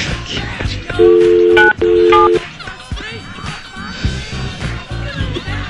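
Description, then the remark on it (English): Two loud, steady telephone keypad tones sound back to back as a phone number is dialed to call a woman, each held for about half a second, with voices and background noise murmuring underneath and continuing afterward. “Let's get her on the phone and ask.”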